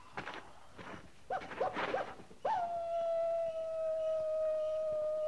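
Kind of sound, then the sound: animal, coyote howling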